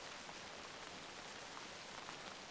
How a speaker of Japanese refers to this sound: 雨の音以外にもいろいろ聞こえるものじゃな。時折どこかの草むらががっさりと揺れる音、木々に当たる雨粒が葉をはじく音、雨の中にもいろんな音が混ざっておるようじゃ。